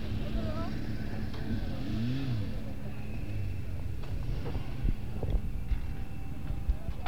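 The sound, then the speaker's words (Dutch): A steady, loud rumble of about 50 motorcycle engines rolling past, with revs rising and falling throughout and a few sharper throttle bursts near the end, faint indistinct voices mixed in. “Ja, nou, dat kan wel kloppen, ongeveer 50 motoren.”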